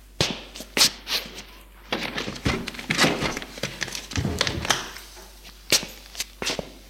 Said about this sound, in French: Yves range ses affaires dans sa chambre.